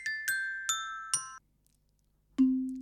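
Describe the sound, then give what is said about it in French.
A metal-bar glockenspiel is struck with mallets four times in quick succession, each bright note ringing briefly. After a short silence, a lower, steady tone sounds until the end. “Le carillon est un petit instrument avec des lames en métal.”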